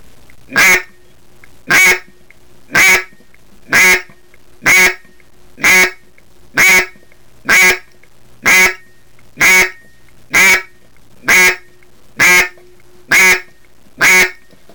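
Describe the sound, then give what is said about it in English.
A steady run of about fourteen identical quacks blown on a duck call, loud, evenly spaced roughly one per second, with no talking. “Once you get the quack down, you need to do a series of quacks, all sounding the same, starting with 3 and then moving on up to as many as 15 or so.”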